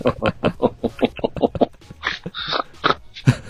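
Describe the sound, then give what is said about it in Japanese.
A person makes a rapid series of nasal, pig-like snorts, fairly loud, then trails into a few squeakier, voiced grunts and laugh-like sounds. “おぉ、豚鼻。”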